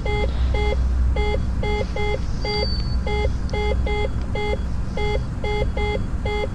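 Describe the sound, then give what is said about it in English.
A repeating electronic warning beep in an aircraft cockpit sounds in steady, evenly spaced pairs of tones over a loud, constant engine rumble as the landing gear is lowered and landing lights are switched on, with no one speaking. “And that beep should stop right about now as soon as we...”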